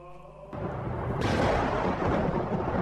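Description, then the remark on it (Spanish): A loud thunder clap bursts in and rolls on as a sustained, crackling rumble, brightening a moment later and filling the rest of the short clip with no voices. “Tata Dios hizo que suene un trueno.”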